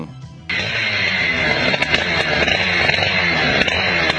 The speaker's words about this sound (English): I mean, guys, using a chainsaw to cut hair.